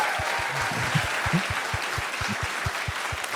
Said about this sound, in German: Kleiner Applaus so.